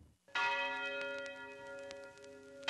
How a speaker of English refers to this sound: At 9 o'clock, a big bell would ring, dong, dong, and you knew that was for you, if you were black, to get out of the white city.